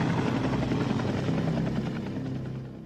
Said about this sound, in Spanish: Ahí viene el helicóptero. Está justo sobre Tikaboo Peak. Ha venido para vigilarnos. No hay otra explicación. El helicóptero da vueltas durante 20 minutos y luego desaparece tal y como apareció.